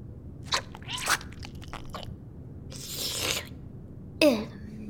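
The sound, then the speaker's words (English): Crisp crunching and chewing, with several sharp bites and brittle crackles coming in uneven bursts over a quiet background hum. “doing some eating, right?”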